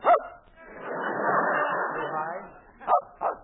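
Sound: dog barking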